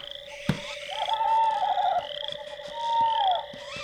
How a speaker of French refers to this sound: Ah, qu'est-ce que c'est ce truc? Ah putain, des chouettes. Ça fait à moitié chier, ça.